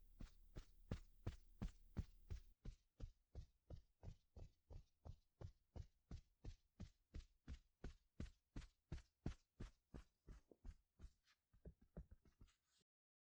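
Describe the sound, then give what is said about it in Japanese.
A steady series of soft pats on a back, given as part of a shoulder-tapping massage, about two or three per second, continuing evenly for the whole stretch with no voices, slowing slightly and trailing off at the end. “お背中の方までトントンしてあげるね。”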